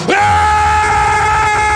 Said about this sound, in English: Does that make you angry out there? Let me hear your war growl.